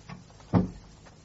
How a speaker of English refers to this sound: Hush, shut the door. And come here.